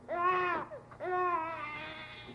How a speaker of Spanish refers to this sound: No puede creer lo que ha escuchado. ¿De dónde ha venido aquel llanto tierno y apenas perceptible?